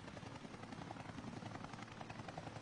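A Bell 214 helicopter carrying Lieutenant General Sayad Shirazi drones steadily overhead as it enters the area, its rotor chop pulsing in a fast, continuous rhythm over a broad engine roar, sustained throughout with no voices.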